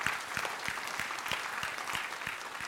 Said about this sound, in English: Give the Lord a clap. Go ahead. It's all right.